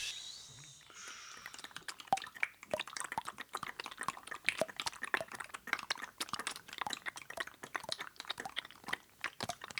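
Rapid, irregular water drips tap away, crisp little clicks and plinks tumbling over one another after a brief hushed start, with no voices; a sound postcard about a water drop's journey made by students at Lycée du Grand Blotreau.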